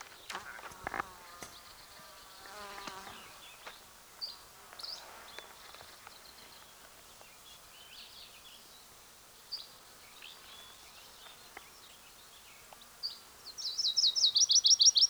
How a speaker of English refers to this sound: There's a probable Virginia's warbler singing. It's either that or a yellow-rumped warbler.